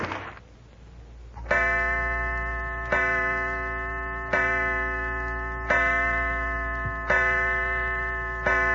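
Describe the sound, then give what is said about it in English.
A clock strikes six o'clock, six ringing chimes arriving at a steady, unhurried pace and lingering into the next. The tones are loud, with only a faint tick before the first stroke. “Six o'clock, Mother's late.”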